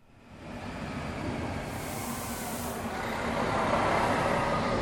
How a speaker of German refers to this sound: Es ist 15.20 Uhr, als ein Zug auf Gleis 2 einfährt.